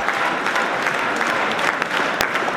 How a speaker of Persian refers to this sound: فردریش مرتز صدر اعظم آینده آلمان در میان تشویق هواداران خود بعد از اعلام نتیجه انتخابات اخیر آلمان.